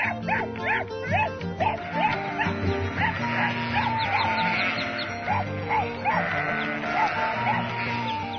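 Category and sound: animal, sheep bleating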